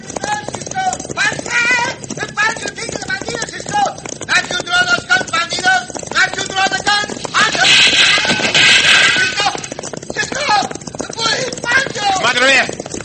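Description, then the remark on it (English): Horses gallop alongside a stampeding herd of cattle, a loud, constant rumble of pounding hooves filling the scene while riders talk and call out over the din. “I'll ride over there and try to turn the other one back.”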